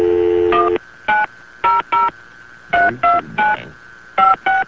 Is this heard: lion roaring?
no